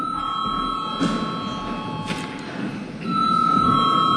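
A parliament chamber bell rings continuously after debate closes, before a vote on a no-confidence motion against Education and Science Minister Anda Čakša, with a steady, high-pitched electric tone over a low murmur of background noise, growing slightly louder toward the end.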